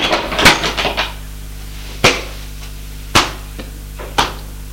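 A door is shut: a quick burst of rattling clatter, then three sharp, hard knocks about a second apart, each fading fast into a low steady hum.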